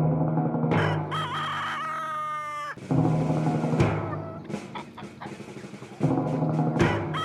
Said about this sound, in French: Le coq pousse son cri pour montrer qu'il est le plus fort sur son territoire et qu'il règne en maître sur ses poules avec lesquelles il s'accouple régulièrement.